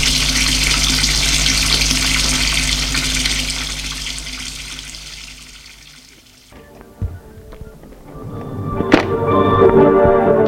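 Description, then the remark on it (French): Water from a shower runs in a steady hiss for about six seconds as a man showers at home before bed, then cuts off, followed by a few soft thunks and clattering knocks. “Lave la cuisine, prend une douche et se couche.”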